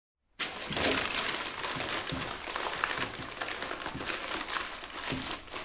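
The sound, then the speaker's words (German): Paper is pressed down by hand and crumpled in a box, a steady rustling and crackling that starts abruptly and continues for several seconds with small crunchy pops throughout. “Drück mal das Papier in deiner Kiste mit deinen Händen runter.”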